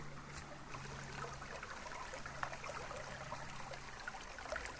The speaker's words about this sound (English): I love the sound of running water. It's so magical.